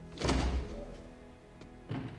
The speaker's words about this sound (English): pushes open the door to a dark space beyond.